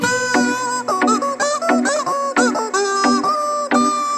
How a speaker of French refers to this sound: Alors, qui chante? Eh bien, c'est un poulet en plastique. Oui, c'est joué, vous savez qu'on presse pour qu'il couine.